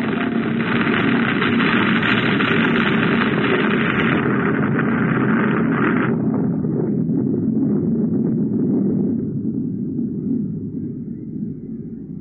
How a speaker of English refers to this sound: What was that? Get out of the car, quick! An avalanche!